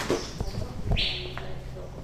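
A bird flies overhead inside the Victoria Serre greenhouse, its wings giving a few soft, irregular flaps against a quiet hum, with a brief thin high note partway through.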